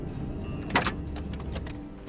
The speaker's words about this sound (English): And the same car pulled up beside her again and offered her a ride.